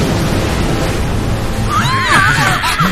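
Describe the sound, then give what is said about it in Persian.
A warning cannon shot fired at a pirate ship explodes in a deep, sustained rumble with rushing, splashing noise, and high whistling tones sweep in partway through. No one speaks. “اولین شلیک اخطار بود، بعدی خطا نخواهد رفت.”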